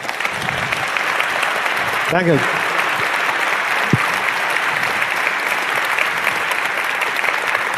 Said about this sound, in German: Also einmal großen Applaus für Steini.